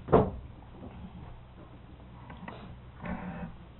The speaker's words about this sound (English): Now, maybe you just open that door a little more.